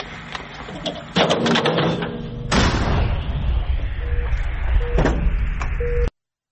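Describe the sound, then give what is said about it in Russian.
A cannon fires with a loud, heavy boom, preceded by a sharper bang, and a low rumble lingers afterward over a noisy background with faint voices. “Ну, разобрали мы хорошо, я же вам очень здорово стреляет пушка.”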